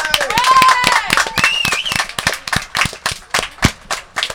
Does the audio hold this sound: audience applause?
yes